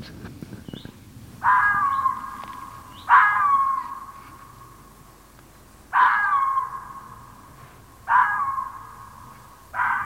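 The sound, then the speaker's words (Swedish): A female fox barks five times, each call a harsh, drawn-out yelp with a rasping tone, spaced irregularly a second or two apart, loud with no talking. “Det här är en hona som skäller.”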